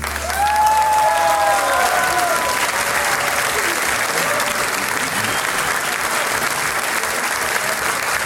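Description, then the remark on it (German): Steady audience applause fills the whole stretch, a dense, even wash of clapping with a few faint whistles or cheers rising over it near the start. “Und jetzt freiert man uns sehr auf einen richtigen Applaus.”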